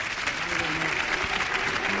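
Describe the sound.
Steady, dense audience applause fills the whole stretch, a continuous bright patter of many hands clapping at once, with some faint voices and murmurs mixed underneath.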